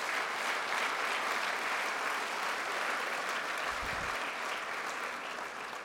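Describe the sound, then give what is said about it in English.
An audience applauds steadily for everyone involved in a project, a dense wash of clapping that holds at an even volume for several seconds before starting to ease off at the end. “Let's have a round of applause for everyone who's been involved in this fantastic project.”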